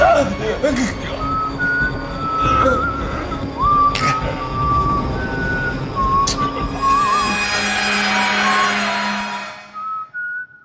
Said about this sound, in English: She whistles.